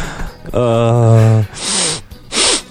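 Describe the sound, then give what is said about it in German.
A drawn-out, nasal voiced tone is followed by two sharp, hissy sniffs in quick succession, the congested sniffling of someone with hay fever, partly performed with the voice. “Schnief.”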